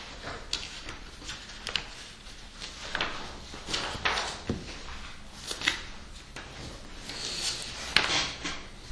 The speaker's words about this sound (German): Der ist so lang. Mal viel blättern.